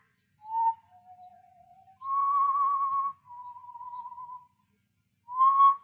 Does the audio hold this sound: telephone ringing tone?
no